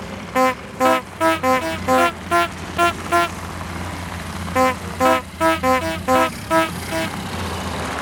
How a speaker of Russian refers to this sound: Поэтому автомобили и снабдили сигнальными устройствами. Например, звуковыми рожками. Машины издавали пронзительные гудки, которые предупреждали об их появлении животных или зазевавшихся пешеходов.